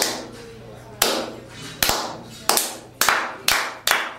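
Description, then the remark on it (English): A single pair of hands claps about six or seven times, loud, each sharp smack trailing into a short echo, the beats gradually quickening, imitating how PWG wrestling fans clap during matches. “Oh yeah, every time that we wrestle, they go out there and they clap.”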